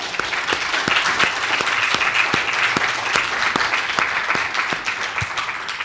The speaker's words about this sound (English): So I want to just honor and recognize all the mothers here and say thank you for everything that you do. And can we all give all the mothers here a round of applause?